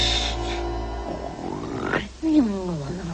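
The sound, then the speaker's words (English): A loud snore: a long rumbling inhale that breaks into a snorting, gurgling grunt, sounding like a voice acting out heavy snoring. “You're snoring.”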